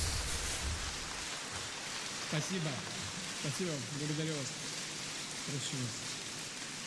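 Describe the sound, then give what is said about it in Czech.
A large crowd gives a standing ovation at a forum, applauding loudly and steadily throughout, a dense unbroken roar of clapping welcoming People's Front leader and Russian President Vladimir Putin, with a man's voice speaking briefly over it partway through. “Obrovský mohutný potlesk ve stoje.”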